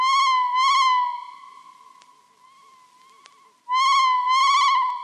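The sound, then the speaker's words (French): Loud, wavering, moaning wails of a fouquet shearwater seabird calling at night, two cries at the start and two more at the end, with a faint sustained tone between them. No one speaks. “Ça, pas fantôme. Ces oiseaux Fouquet. Oui, mais écoute encore.”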